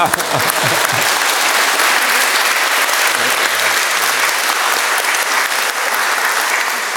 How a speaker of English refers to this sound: Well, we need a round of applause for that. Oh, we do.